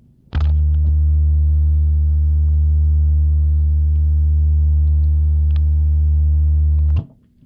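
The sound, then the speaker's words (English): A speech synthesizer's fast-forward sound while skipping over text: a loud, steady electronic buzz that starts abruptly, holds unchanged for about seven seconds, then cuts off, with no speech. “You will hear a hissing sound that lets you know you are passing over text material.”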